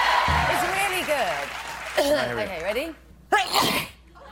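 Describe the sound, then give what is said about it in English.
A person performs a convincing fake sneeze with a rising, wavering vocal buildup followed by sharp breathy bursts, loud and mostly alone with a low hum underneath. “So I sort of worked up a really convincing sneeze.”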